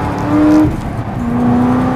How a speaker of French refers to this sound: et puis surtout le bruit du moteur, qui a une tonalité beaucoup plus rauque que celui des autres Corvettes.